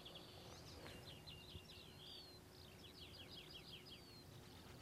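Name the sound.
common chaffinch singing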